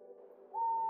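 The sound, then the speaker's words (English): A single owl hoot in the dark as owls begin to hunt, low and breathy at first, then rising into a steady, clear whistled tone that holds to the end. It sounds alone, with no talking. “reached his mother's house in the dark to the sound of owls beginning to hunt.”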